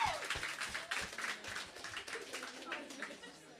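Audience applause: many hands clapping in a dense, steady patter that holds for several seconds without fading, with a few voices murmuring underneath.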